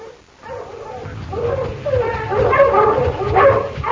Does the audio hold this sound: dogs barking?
yes